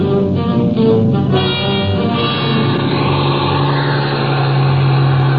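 A bus engine revs hard and accelerates on snow-covered mountain roads, its deep steady drone rising and growing rougher as it pulls away, loud for several seconds.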